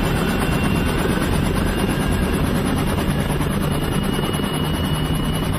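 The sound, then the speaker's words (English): A helicopter roars steadily overhead, its deep throbbing rotor wash filling the whole stretch loudly, with a continuous engine whine layered on top and no voices. “that's when the sound of helicopters was drowning out your …, your …, and your …”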